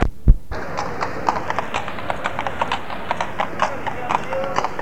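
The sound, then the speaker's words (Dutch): Hooves of several police horses clip-clop steadily on a hard street during a riot among market stalls, a brisk irregular patter of sharp knocks over a noisy crowd backdrop with indistinct voices. “En de rijders krijgen versterking met in ieder geval nog 2 paarden.”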